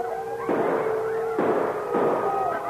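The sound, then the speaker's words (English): Three sharp gunshot blasts, fired to scatter a wolf pack surrounding an unarmed man, ring out at uneven intervals, each a loud burst that decays into a rumble, with a steady howl-like wail running underneath. “When he heard the shots that scattered the frenzied wolf pack surrounding him, he could hardly believe his ears.”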